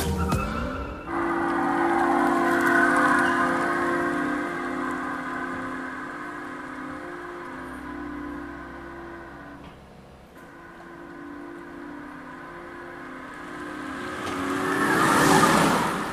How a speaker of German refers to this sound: Ja, elektrisch halt, ne? Elektrisch, jo. Haben wir schon öfter gesagt, dass jetzt, also wer daran jetzt wirklich erkennt, aha, das ist der Opel Mokka E, da muss ich sagen, ziehe ich meinen Hut.